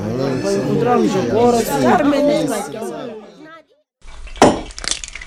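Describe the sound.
Several voices chatter busily, then after a brief pause a sharp metallic clank of pots and utensils rings out close by, followed by faint rattling in a noisy room.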